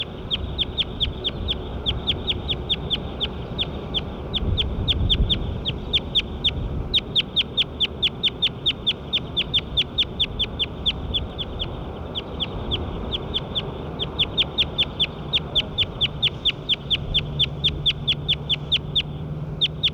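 bird calls

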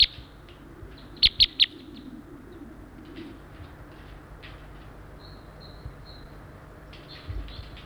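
several birds chirping

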